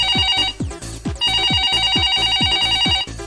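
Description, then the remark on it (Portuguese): A telephone rings steadily with a bright, repeating electronic trill layered over rhythmic low thumps, loud, with no one speaking. “Telefone tocando?”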